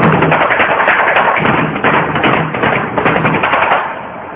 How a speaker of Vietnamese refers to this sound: Chàng muốn nhảy vào trong tường, nhưng không còn chút lực khí, đành phải đập cửa mấy cái, rồi dung cước đá vào cánh cửa lớn. Cái đá này không mở ra được